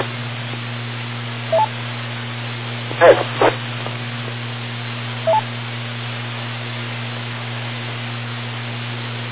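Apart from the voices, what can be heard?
phone ringing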